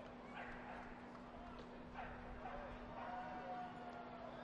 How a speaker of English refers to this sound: Dog barking is now resumed. I guess that means you can say the fans are making some noise.